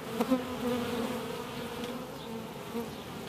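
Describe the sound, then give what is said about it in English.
A dense, steady drone of many honeybees swarming all around a beekeeper, a continuous humming swarm with small swells in loudness and no voices. “I've got them swarming all around me, and I'm actually feeling quite comfortable.”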